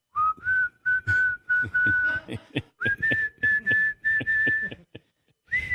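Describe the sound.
A clear whistled tune of sustained notes stepping up in pitch across short phrases, with brief pauses between them and soft knocking or tapping sounds underneath, as a man whistles while walking up to the podium.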